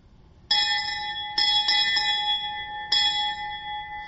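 A church bell strikes about five times at uneven intervals to call people to gather around the altar, each clang ringing on with a bright, sustained metallic tone. It sounds fairly loud, with no voices.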